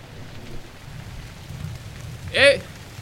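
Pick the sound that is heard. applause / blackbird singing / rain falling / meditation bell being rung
rain falling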